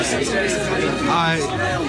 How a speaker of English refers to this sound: Sounds like a crowd's gathering or coming through the gate.